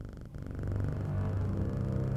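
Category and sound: animal, cat purring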